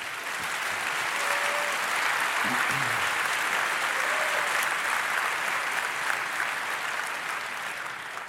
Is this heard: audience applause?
yes